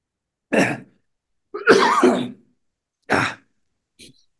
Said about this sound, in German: Keuchhusten.